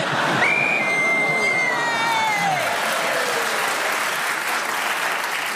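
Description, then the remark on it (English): A whistle blows to end a contestant's turn, a long, wavering tone that slides downward, sounding over steady loud applause and crowd noise that continues throughout. “So somehow Fee Glover kept going till the whistle went.”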